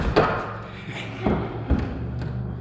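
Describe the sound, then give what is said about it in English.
Someone settles heavily onto a chair: a few dull thumps and shuffling bumps spread over a couple of seconds, with faint room noise and no voices. “Are you willing to test out your faith and sit in that chair?”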